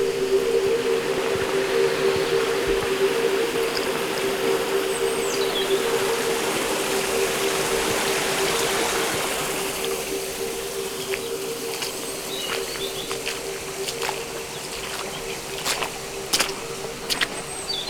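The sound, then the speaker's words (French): A small stream at nearly 300 metres altitude gurgles steadily nearby, louder at first and then softer, with a steady insect drone underneath and a few scattered bird chirps and clicks. “Mais là, à près de 300 mètres d'altitude, nous arrivons près d'un petit ruisseau.”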